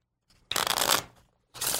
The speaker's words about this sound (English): Place it back right here. I'll cut it into the deck. And then shuffle the cards.